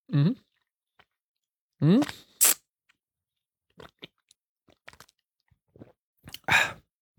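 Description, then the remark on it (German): Wet lip smacking and mouth clicks right at the microphone as people drink alcohol, scattered irregularly, with a couple of short hummed vocal sounds and a louder breathy burst near the end. “Schmatzen wir genauso ins Mikrofon”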